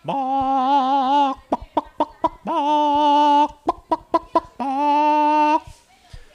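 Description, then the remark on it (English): Chickens clucking up close: three loud, drawn-out wavering calls, each followed by a quick run of short, sharp clucks, with no talking. “Chickens were right out the back door in the grape arbor, and they'd fluff around there in the sand trying to keep cool.”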